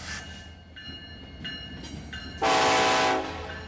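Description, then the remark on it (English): A long oil train rumbles past just outside Newark, Delaware, its horn sounding in several short tonal blasts before a loud, sustained blare swells up. No one speaks. “I'm just outside of Newark, Delaware, and a long oil train is just about to pass here.”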